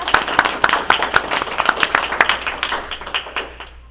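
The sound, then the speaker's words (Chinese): A group claps for about four seconds, a dense patter of many hands with some sharper individual claps standing out, then the applause thins and fades away at the end. “啊，我们很谢谢他，我们可以这样一个鼓掌好不好？”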